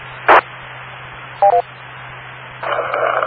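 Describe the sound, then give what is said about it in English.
Two quick electronic beeps, the second slightly lower in pitch, sound over a steady low hum, preceded by a brief crackly burst and followed by a rush of radio-like static; the beep heard on 8-5. “Yeah, by the way, it's still not the right beep on 8-5.”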